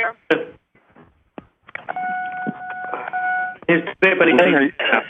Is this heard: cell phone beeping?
yes